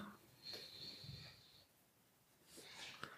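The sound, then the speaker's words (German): An animal yawns quietly, a drawn-out breathy exhale with a thin high squeak, followed by soft snuffling breaths. Faint, with no talking. “Oh jo, Murphy ist mit da. Der gähnt. Der gähnt.”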